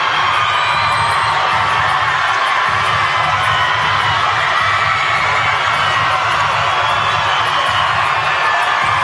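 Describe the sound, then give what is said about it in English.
A huge arena crowd roars and cheers without letup after the Aggies win 51-50 on a final defensive stop to advance, a dense, loud wall of shouting and whooping that fills the space for the whole stretch. “I wish we could show the crowd right here, Jeremy. Just, it's unbelievable.”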